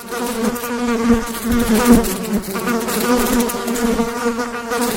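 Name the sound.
flies buzzing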